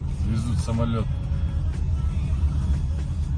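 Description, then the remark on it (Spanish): Steady, heavy low rumble of cars on a conventional road in Karagandá, Kazakhstan, recorded from a car passing an aircraft being towed along the road by a large truck, running throughout without letting up, with a short burst of voices or tonal sounds near the start riding above the engine and tyre noise. “Ha ocurrido en Karagandá, en Kazajistán, y el vídeo lo ha grabado uno de los coches que se cruzaron con la aeronave y que flipaban.”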